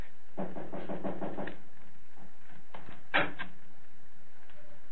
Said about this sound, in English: Take the knock on the door and the footsteps coming in. That's bottom of page 11.